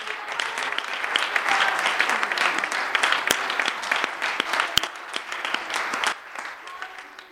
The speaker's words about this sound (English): I think it would be right if we gave them a standing ovation, if we stood. Yes. Applause unto them for their service. Thank you.